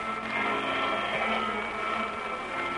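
vacuum cleaner running

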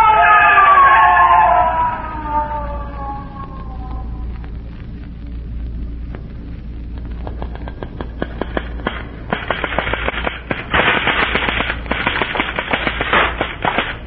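ambulance siren

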